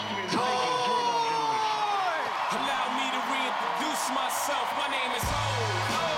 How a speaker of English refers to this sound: The full audience stands and applauds in a large theater.